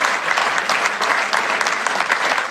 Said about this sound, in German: Klatschen.